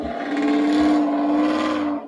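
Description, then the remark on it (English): A loud car roars past, its engine a steady droning hum with a strong low tone that swells slightly before cutting off after about two seconds. No one speaks. “That is a loud-ass car.”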